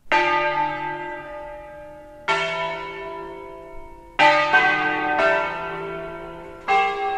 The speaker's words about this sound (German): Für Nordländer ist es klingende Südatmosphäre. Für Tessiner ist es akustische Heimat. Und sie lüten ihre Glocken bei jeder Gelegenheit. Mit Klöppel und Hämmer, ausgiebig und auf die verschiedensten Arten.